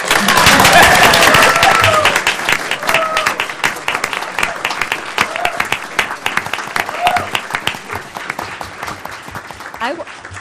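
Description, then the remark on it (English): A crowd of people at a city government meeting bursts into steady applause for the person chairing the proceedings, loudest at the start and then thinning into scattered claps that fade out over about ten seconds, with some murmuring under it. “You're the only, because you did such a great job of presenting yourself, and because you made the extra effort to come down here as chair of this proceedings, you get the only exception for clapping.”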